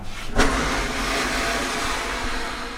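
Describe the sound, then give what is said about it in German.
A floor-to-ceiling bakery oven baking bagels, set to 230 with top and bottom heat and steam, switches on with a sharp click, then a steady, loud hiss of steam over a low mechanical rumble that holds evenly throughout, with no voices. “Und man kann jetzt hören, wenn wir machen an.”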